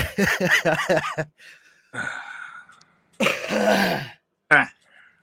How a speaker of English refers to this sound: Yeah, I feel all my lung butter breaking up now as I cough.